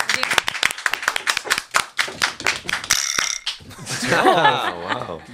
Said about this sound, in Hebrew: רק אני מחא כפיים? כולם, כולם.